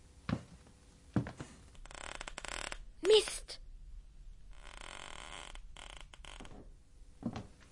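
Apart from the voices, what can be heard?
wooden stairs creaking underfoot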